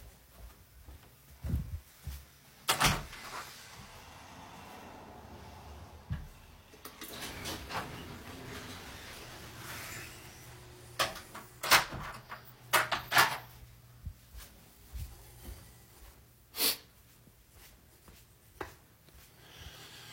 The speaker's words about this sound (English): Yeah. Well, all right, I guess I got to close the garage. The garage door's wide open. Can't have that.